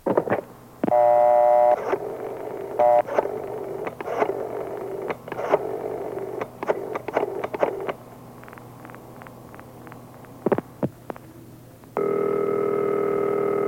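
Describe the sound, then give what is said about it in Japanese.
A steady telephone dial tone, then a run of short beeping dial tones as a number is keyed, ending in a sustained ringing tone. No voices, just the phone line sounds. “さ、早く電話して。”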